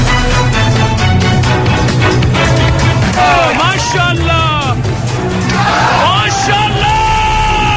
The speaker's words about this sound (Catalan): Aquests són els crits dels manifestants que ahir al vespre protestaven a Teheran contra l'execució de 47 persones a l'Aràbia Saudita acusades de desobediència a les autoritats i terrorisme.